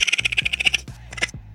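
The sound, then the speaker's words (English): A mother raccoon's follow-me call: a quick run of high, chirring pulses, fairly loud, then a brief pause and a couple more bursts before it trails off. “Mothers make follow me sounds.”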